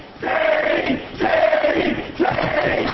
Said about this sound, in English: Stop shouting already.